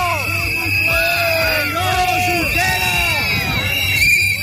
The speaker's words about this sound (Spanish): Eran los abucheos que recibían esa protesta que ha reunido a unas 6.500 personas contra la cumbre hispano-francesa que se está clausurando en Barcelona.